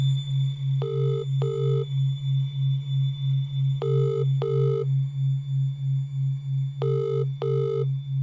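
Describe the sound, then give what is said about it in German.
A call placed from a mobile phone rings out three times in double bursts about three seconds apart, over a steady low pulsing hum, with no one picking up and no voices. “Sie hat ein Handy, und gemeinsam versuchen sie, Brads Vater zu erreichen”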